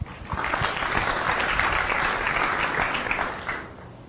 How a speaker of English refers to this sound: Clap again.